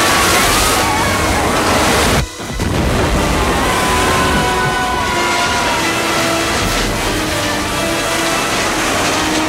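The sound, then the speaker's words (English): A loud, roaring torrent of water bursts through the wall behind an auction podium, pouring continuously in a dense churning wash that briefly cuts out near the start before surging on, sweeping guests onto the front yard. “The wall behind the podium leaks water.”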